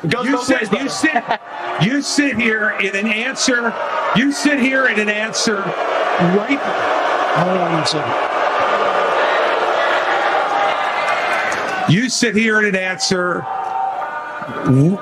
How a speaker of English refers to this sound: Listen again to more booing following what Chris Christie said.